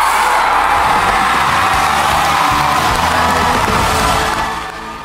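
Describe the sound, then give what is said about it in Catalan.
A large crowd erupts in loud, sustained screaming and cheering at the announcement of the song chosen with 43% of the votes, a dense wall of excited voices holding steady for several seconds before easing slightly at the end. “Un dels crits d'aquests era jo des de casa, eh?”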